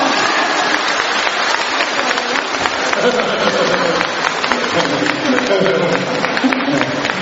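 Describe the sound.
Sustained audience applause from a large crowd, a dense, steady wash of clapping that stays loud and even throughout, with indistinct voices mixed faintly underneath.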